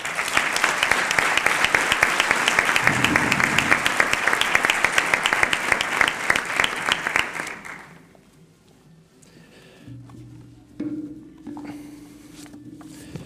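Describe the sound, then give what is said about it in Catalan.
Dense crowd applause for the writer opening the 185th edition of the Fira de Móra la Nova fair, many hands clapping steadily and loudly for about eight seconds, then fading out into quieter faint murmurs and low hum. “Demanem un fort aplaudiment per l'Andreu Carranza i Font.”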